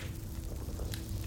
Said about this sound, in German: Du lauschst noch entspannt dem angenehmen Knistern der Flamme.